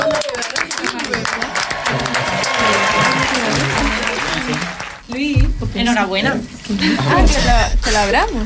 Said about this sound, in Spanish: El ganador del concurso ha sido el equipo Igualdad. Un fuerte aplauso.